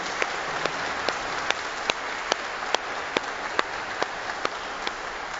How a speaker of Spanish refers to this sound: Un aplauso fuerte para nuestras mamás.